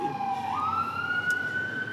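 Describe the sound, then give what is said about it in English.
An emergency siren wails in a city street, its tone sliding upward and holding steady and loud over a low rumble of traffic, with no one talking. “We don't know if you're hearing the sirens, but it's pretty loud.”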